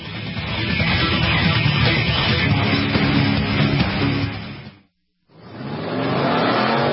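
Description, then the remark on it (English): Loud race car engines roar and rev continuously, with a screech of tires mixed in; the sound cuts out briefly, then an engine climbs back up in pitch as it accelerates. Sports car endurance race, the 12 Hours of Sebring at Sebring International Raceway, Florida. “The Mobile One 12 Hours of Sebring, presented by Fresh from Florida, features the fastest race cars in the world.”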